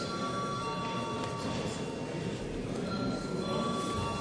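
parliament voting bell ringing

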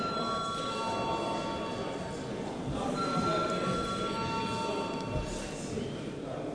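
parliament voting bell ringing

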